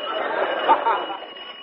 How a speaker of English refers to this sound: Ah, oh, there's that doorbell again.